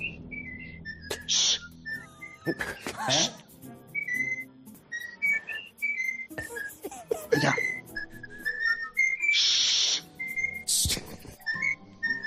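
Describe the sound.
A parrot at the home of former referee Pajares Paz whistles a meandering tune, the anthem, a string of short bright notes broken by a few harsh squawky bursts, with a person briefly speaking once.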